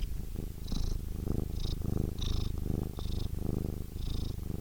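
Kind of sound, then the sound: animal, cat purring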